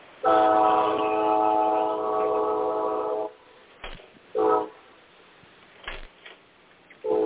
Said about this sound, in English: Train. Well, somebody's got a shoo-shoo train. Well, I figured since I don't have my ding-dong clock, I'll come outside and you can hear the train.